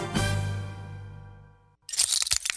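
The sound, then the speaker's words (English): A sharp hit rings out with a sustained tone that slowly fades, then a loud crash of glass shattering follows, with bright, jagged bursts of tinkling shards. “Uh-oh, sounds like you need some new glass.”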